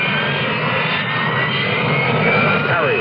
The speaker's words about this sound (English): What is a Harrier? It isn't a helicopter, but it could land in your backyard. Harrier. It isn't a conventional jet, but it can match the speed of sound.